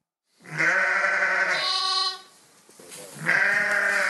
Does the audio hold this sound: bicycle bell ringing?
no